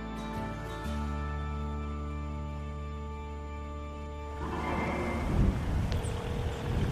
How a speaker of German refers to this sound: Ich habe im Scarborough Harbor ein Boot angemietet.